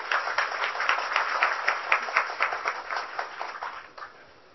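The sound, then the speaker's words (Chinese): An audience applauds steadily for about four seconds, a dense, crackling wash of many hands clapping at once, welcoming the day's featured lecturer, Professor Zheng Shiyan, then quickly tapers off to quiet. No one speaks. “各位大德，我们再一次的以热烈的掌声欢迎我们今天的主讲老师郑时延郑教授的讲演。”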